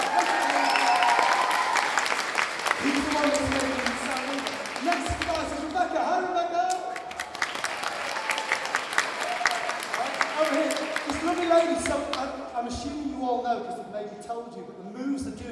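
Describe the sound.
A crowd of children cheers and claps enthusiastically for a team member being introduced, with dense, steady applause and excited high-pitched shouts and voices carrying on loudly for several seconds.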